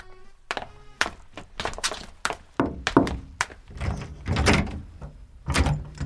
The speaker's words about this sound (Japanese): イライラしながら部屋を歩き回っていた B は、恐る恐るドアを開けて入ってくる女学生をきっとにらみつけ詰め寄ります。